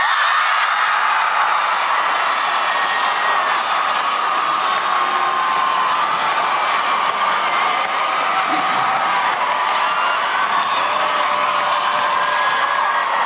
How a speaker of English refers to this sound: So pretty big applause, as you could imagine.